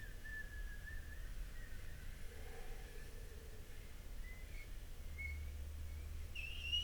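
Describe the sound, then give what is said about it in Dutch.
A slow, very long breath let out through pursed lips as a breathing exercise, carrying a faint, wavering whistle that rises and falls over a soft, airy hiss. It is quiet, with no talking. “Het begon ook een beetje te fluiten, maar dan ligt een beetje aan waar de lucht allemaal langs komt.”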